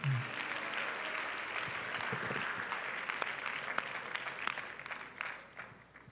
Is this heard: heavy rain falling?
no